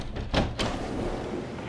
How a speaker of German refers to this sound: Oh Gott, diese Tür.